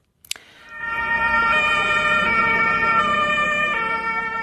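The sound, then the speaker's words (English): A loud emergency vehicle siren in Mannheim, Germany, as emergency services respond to reports of a car driven into a crowd of people, wails steadily with sustained tonal pitches, shifting tone near the end, over a low rumble of traffic, preceded by a brief sharp click. “That is the now familiar sound of emergency services in Germany responding to reports of a car being driven into a crowd of people.”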